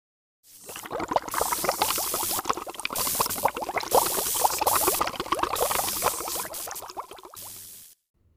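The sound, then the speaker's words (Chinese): Water bubbles vigorously and without pause for several seconds, a dense, churning stream of popping bubbles at a steady, fairly loud level before cutting off abruptly, depicting water being disinfected with ozone and chlorine under a glaring purple light. “紫色的光好刺眼，还有气泡在狂喷。”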